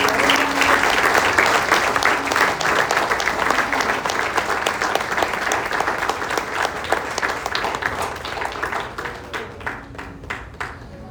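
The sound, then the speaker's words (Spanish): A church audience gives a big round of applause, a sustained, dense wash of many hands clapping, steady and loud for about ten seconds before thinning slightly toward the end. No one speaks. “Dele un aplauso grande.”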